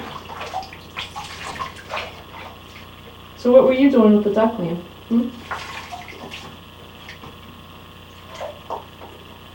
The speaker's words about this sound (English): you're drinking the bath water, no doing that. Jeez, no, there's soap in that water and stuff. It's disgusting.